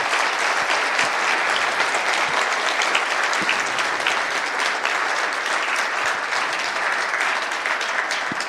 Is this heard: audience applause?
yes